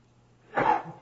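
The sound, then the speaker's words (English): A single quick sneeze bursts out, breathy and forceful, lasting under half a second against a quiet background with a faint low hum. “Bless you.”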